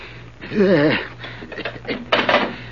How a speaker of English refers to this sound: Now you can walk over and open that safe.